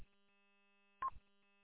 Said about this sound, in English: Just have to wait for the repeater to identify. Sorry about that.